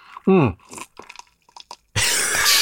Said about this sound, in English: Oh, listen to that effervescence. This quality podcast material right there.